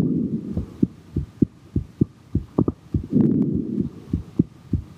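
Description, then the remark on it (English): A recorded heartbeat thumps steadily and fairly quickly, its soft muffled lub-dub beats clear over a low constant hum, with no voices. “As a musician and therapist, Brian Schreck says the heartbeat has always been interesting to him.”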